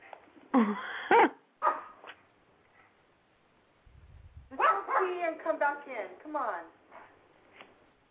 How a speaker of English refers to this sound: I mean, she might see a squirrel or something, or maybe an owl. I mean, I don't know. I don't know what the freaking dog is barking. I don't know what she's barking at.